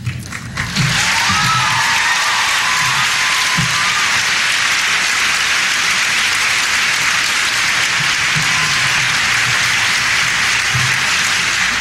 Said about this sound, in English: I'm not going to tell George you clap more for Ferris than you clap for George.